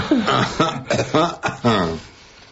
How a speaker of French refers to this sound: Pourquoi tu tousses ? Ben parce que tout le monde tousse en ce moment.